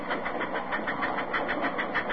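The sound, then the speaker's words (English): A passing train rumbles steadily, its mechanical noise pulsing in a quick, even rhythm with a gritty, mid-pitched clatter and no voices over it. “Here's a passing train.”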